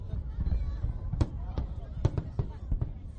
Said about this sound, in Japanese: それにしても25分間のパワフルな花火ショー、短かった、もっと見たかったというのは私だけじゃなかったようです。